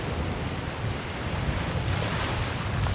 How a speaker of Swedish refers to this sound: Vi är vid Tjurpannan i norra Bohuslän. Det är öppet hav ut mot en ensam fyr och vågorna slår in mot stenstranden. Havets krafter är tydliga här.